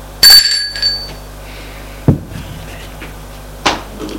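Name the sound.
doorbell ringing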